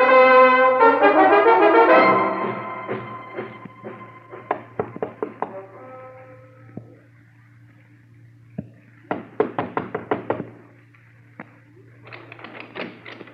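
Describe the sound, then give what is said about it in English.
Repeated knocking on a door comes in insistent bursts of quick raps with pauses between them, following a loud sustained tone at the start, over a steady low hum. “Sorry to be so persistent, Mr. Kendall. We tried the front door and the side”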